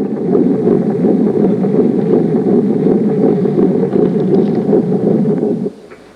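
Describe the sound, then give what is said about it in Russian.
A recorded heartbeat of an embryo at 8 weeks and 2 days: a steady, loud, muffled whooshing pulse with a fast rhythm that continues without pause for several seconds, then cuts off abruptly near the end. “И может, мои слова прозвучат еще более убедительно для вас, уважаемые коллеги, если в дополнение к ним я дам вам послушать запись сердцебиения эмбриона на сроке 8 недель и 2 дня.”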